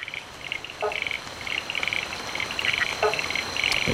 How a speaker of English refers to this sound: It's frogs. Yeah. A diverse soundscape of more than 60 species of Australian frogs.